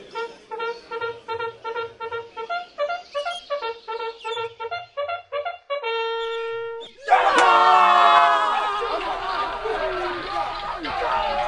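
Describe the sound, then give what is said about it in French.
A rapid run of pulsing, tonal calls ends in one long held note, then a loud roar of many overlapping voices breaks out, shouting battle cries in the battle between Saul's Israelite army and the Philistines, staying dense and chaotic to the end. “La bataille contre les Philistins faisait rage, on entendait des cris partout.”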